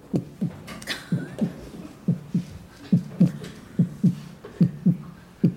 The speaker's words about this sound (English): Sure enough, it started to fall with snow because winter came, and those drum beats started to get fainter, just like the grasshopper's heartbeat.